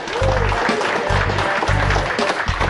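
A crowd applauds a co-host being introduced for a few seconds, a dense, steady crackle of many hands clapping at an even, fairly loud level, with some low thumping underneath.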